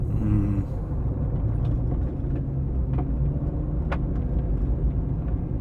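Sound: car driving on road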